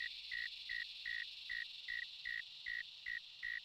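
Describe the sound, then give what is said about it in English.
A cricket chirps in the dark at night in a steady, even rhythm, about ten short pulses repeating over a faint continuous hiss of other insects. It sounds clear, with no voices. “This cricket makes its sound in the dark.”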